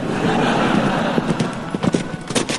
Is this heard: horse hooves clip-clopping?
yes